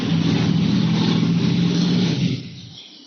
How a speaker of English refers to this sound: I don't know if those online can hear the motorcycle